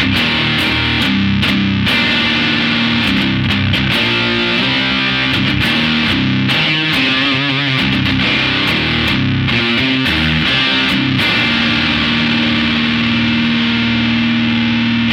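Distorted electric guitar through a Sonder overdrive pedal, its 3-band EQ adjusted for a beefier, more articulate crunch, plays a steady run of crunchy, chugging chords and riffs, loud and thick with gritty harmonics, with no voices over it.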